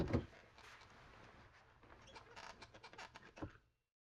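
A chair tilts backward with a soft thump at the start, a few seconds of creaking and clicking from the mechanism, then another knock as it settles; the chair is being reclined for a head spa carbonated-shampoo hair wash. Fairly quiet, with no talking.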